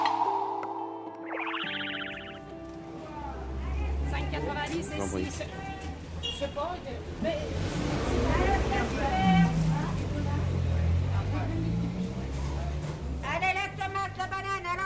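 After a brief rising whoosh, a busy outdoor crowd at a market on a square murmurs steadily while low engine rumbles of old cars pass, with indistinct chatter throughout.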